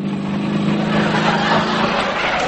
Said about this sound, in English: Sydney's coming to pick me up on his motorbike.